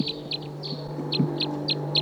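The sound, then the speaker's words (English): Wild birds call in a quick, steady series of high, short chirps, about eight notes spaced evenly over two seconds, above a constant low hum. “So recording the wild birds here.”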